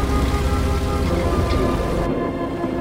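Heavy, steady rain pours down in a sudden thunderstorm, a dense wash of noise layered over a deep, continuous low rumble of thunder, with no voices.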